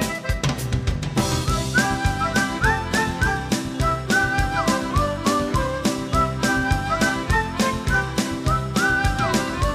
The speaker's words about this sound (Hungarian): Árkon bokron követném, rossz kedvét messze vinném, fütyülnék egy jó nagyot.